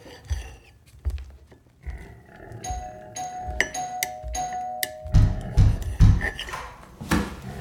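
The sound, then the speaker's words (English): A doorbell rings twice in a row, each ring a sustained, bright electronic chime, surrounded by dull thumps and shuffling noises that grow heavier toward the end. “go get the door.”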